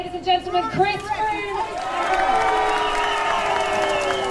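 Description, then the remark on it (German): Roadside crowd noise at the Tour de Yorkshire cycling stage race in central England, with fans applauding Chris Froome: a dense wash of cheering and clapping, with scattered shouts and raised voices rising over the first seconds, then holding steady and loud. “Ihm galt bei der Tour de Yorkshire auch Beifall von seinen Fans, aber fast ebenso groß war an manchen Stationen des Etappenrennens in Mittelengland auch die Anzahl der Menschen,”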